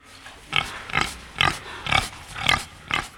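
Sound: pig grunting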